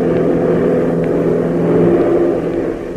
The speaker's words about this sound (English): Hop makes a grim prophecy, but a logical one, and so opens the throttle wider, sending the beach craft roaring through the late morning sky.